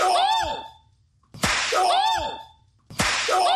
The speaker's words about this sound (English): That was a damn good slap.